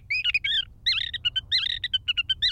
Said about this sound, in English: As for the Sage Thrasher, he's still going strong.